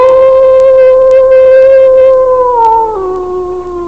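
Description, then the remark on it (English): A single long, steady wolf howl holds one sustained pitch, then drops lower near the end, loud and clear with no voices. “Now, the wolf usually howls for a longer duration in time.”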